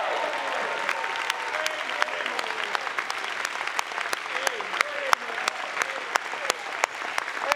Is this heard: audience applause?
yes